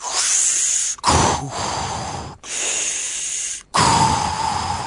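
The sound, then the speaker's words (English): Heavy, raspy breathing right up against the microphone, someone imitating James Earl Jones: four loud, drawn-out breaths alternating in and out with brief pauses between them, and no talking. “You got some heavy breathing over there.”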